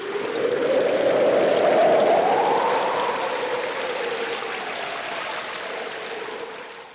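Water pours steadily from a watering can for several seconds, a continuous splashing gush with a slightly rising hollow tone before it tapers off. No voices.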